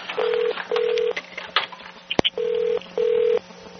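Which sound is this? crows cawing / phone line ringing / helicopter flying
phone line ringing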